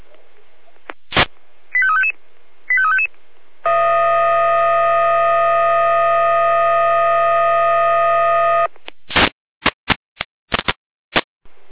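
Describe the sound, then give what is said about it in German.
A fire brigade dispatch alarm from the Jena control centre (Leitstelle Jena), alerting Freien Orla to a tree fallen onto a power line on Dorfstraße: a click and two brief electronic beeps, then a steady, buzzy multi-tone alert held for about five seconds, ending in a string of sharp clicks and bursts. No one speaks. “Hier Leitstelle Jena mit Einsatzalarm.”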